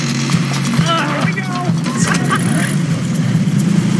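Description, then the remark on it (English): A heavy bus engine sputters into a steady low rumble as the bus is pushed, loud and continuous throughout, with scattered higher squeals and voice-like calls over it. “And, you know, it came to me, what we need, this would be perfect for when they first start pushing the bus.”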